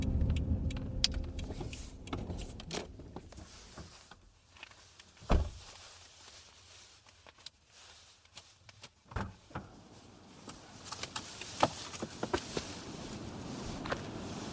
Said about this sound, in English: I was still recording as I stepped out of the car. This section is the final few moments of the longer recording from my mobile.